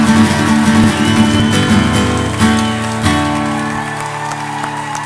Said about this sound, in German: Vielen Dank dafür. Ihr seid der Hammer. Applaus für euch.